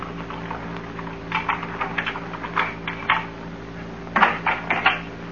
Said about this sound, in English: I heard footsteps outside the house. Footsteps? Just listen.